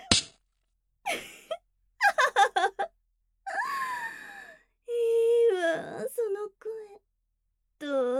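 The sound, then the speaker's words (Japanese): A voice cries in broken bursts: a sharp gasp, a quick string of choked sobs, then longer wavering wails and whimpers, separated by short silences, with no words spoken. “私のために泣いてくれるその声が一番大好き。”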